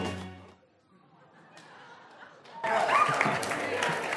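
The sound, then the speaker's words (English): A short burst of voice, then a hushed pause before a large crowd suddenly erupts into loud cheering and clapping that roars on without letting up. “I don't think the speakers were able to keep up with the crowd on that one.”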